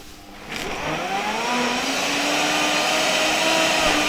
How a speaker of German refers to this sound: So ein Smoothie-Mixer schafft es natürlich wirklich, das maximal zu zerkleinern, das Blattgrün.